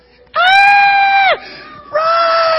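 A man lets out a loud, high-pitched scream of mock fright lasting about a second, then a brief pause before a second sustained, piercing shriek begins.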